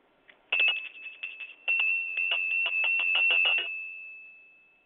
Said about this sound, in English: Oh, and incidentally, the bell that I'm using is, I don't even know where we bought it a long time ago. It is a bell that is, it's got the Statue of Liberty on the top of it.